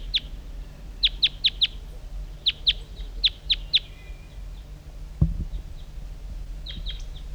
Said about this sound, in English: Other wild birds are around.